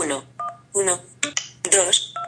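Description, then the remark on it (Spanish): Short electronic keypad dialing beeps from a touchscreen phone's numeric keypad as the digits 1, 2, 3 are dialed, a couple of brief tones while a person talks over and between them. “Número de teléfono, 1, 2, 3. Eso es lo que he marcado yo.”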